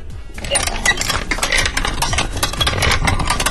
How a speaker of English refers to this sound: And then the top, obviously, is metal and all the grindy parts are metal. I'm going to twist the grinder for you so you can have a little listen, okay?